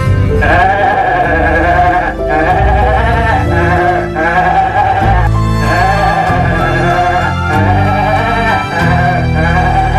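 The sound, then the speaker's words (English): A goat bleats loudly and almost without pause, a long series of harsh, wavering cries, with brief breaks between calls and no one talking. “Today's show will now be entirely dedicated to Australia's favourite goat, Gary.”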